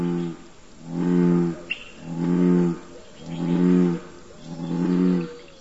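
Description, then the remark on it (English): A bullfrog gives four deep, humming calls in a steady rhythm, each lasting about a second with short pauses between, low and resonant, with one brief click partway through. “Their low humming call seems to fill the air in springtime.”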